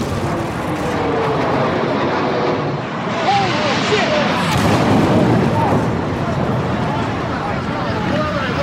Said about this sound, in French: Après le crash du premier avion, il y en a eu un second. Il venait du sud et a heurté la tour sud vers le haut de l'immeuble.